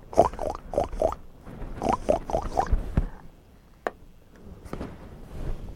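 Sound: pig oinking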